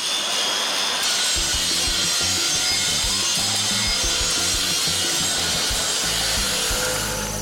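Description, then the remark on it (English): A power saw whines steadily through wood, a dense, grinding buzz that holds for several seconds without letting up, while a lower rhythmic thumping pulses underneath. No one speaks. “Well, if you two are gonna kiss, go on and do it before I fire up this power saw.”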